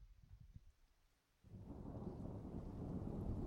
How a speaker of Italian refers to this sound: Si avvicina la tempesta.